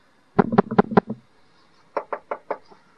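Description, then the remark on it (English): Someone raps firmly on a door, a quick run of about five or six close knocks, then after a short pause a second, lighter series of four evenly spaced knocks. “Knocking on people's doors.”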